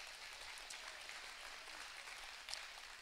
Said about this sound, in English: If you believe that, give the Lord a big round of applause in this place.